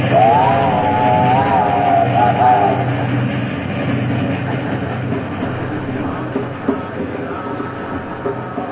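A train rolls along the track with a loud, steady rumbling roar, a wavering high-pitched whine riding over it for the first few seconds before fading into the continuous clatter.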